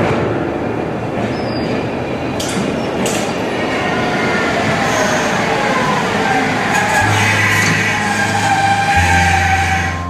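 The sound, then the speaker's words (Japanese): A train rolls along the rails as it enters a single-track line, a loud, steady rumble with clattering wheels and a few brief high squeaks, continuing without pause and with no voices. “単線に入ります。”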